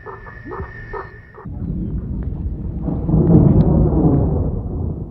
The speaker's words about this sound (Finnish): Outo tuon iltaansa rauhoittuneen metsäisen viidakonkin ääni. Sirkat ja sammakot ne vain.